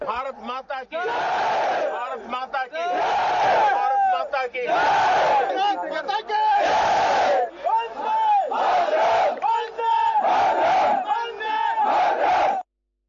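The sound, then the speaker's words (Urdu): A large group of soldiers at Adampur Air Base in Punjab, India, loudly chants "Bharat Mata ki Jai" together with the Prime Minister, in repeated, rhythmic bursts of many voices, each shout rising and falling, with brief gaps between chants and no other sounds behind them. “تِمو دیُت جوانن سۭتۍ رٔلِتھ بھارت ماتا کی جیِکۍ نعرٕ.”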